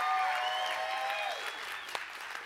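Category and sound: crowd, audience clapping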